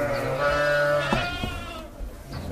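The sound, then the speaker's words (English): Several dairy sheep on a farm bleat over one another in a steady, overlapping chorus, loud, with wavering calls rising and falling against a background of other animals. “That's why my parents started to have a second troop of 200-250 sheep in the year 1996 to have milk from September to January.”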